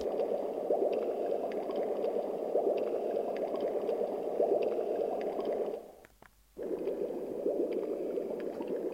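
Steady, dense underwater bubbling and gurgling with a muffled, watery texture while diving underwater, continuous and fairly loud, briefly dropping out near the end before resuming. No voices.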